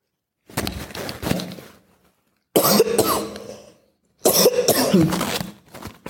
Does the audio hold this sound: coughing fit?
yes